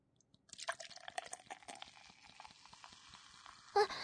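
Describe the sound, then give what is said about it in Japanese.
Beer from a freshly opened can is poured from a height into a glass so that it foams, a steady splashing stream that quickly turns to a fizzing, crackling foam, more than half ending up as foam. It is moderately loud, with a brief clink near the end. “お、本番は、ここから、ビールを、注ぎます。”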